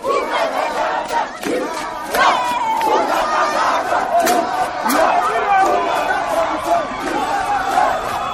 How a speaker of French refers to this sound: Une foule immense de personnes se déverse dans les artères et rues de la capitale. Manifestation de joie, et ce, malgré couvre-feu, toujours en vigueur.